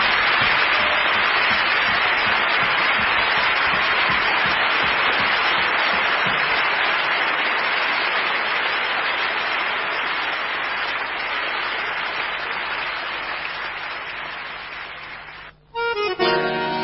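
Sustained audience applause for the guitarists, a dense wash of many hands clapping at steady loudness, tapering slightly before cutting off abruptly near the end.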